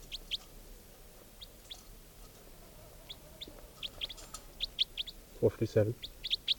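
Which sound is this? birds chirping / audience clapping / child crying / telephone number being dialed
birds chirping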